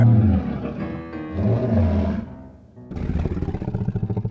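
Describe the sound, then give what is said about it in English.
A lion in a house purrs, a loud, deep rumbling that pauses briefly and then returns as a rapid, rhythmic pulsing throb. “Is Dougal hypnotizing that lion? 3, 2, and purr.”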